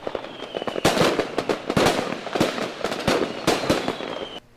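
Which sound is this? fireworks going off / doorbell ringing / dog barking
fireworks going off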